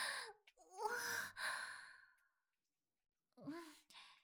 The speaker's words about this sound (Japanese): さっきまで本運んだりしてたから。それでちょっと、息切れしてるかも。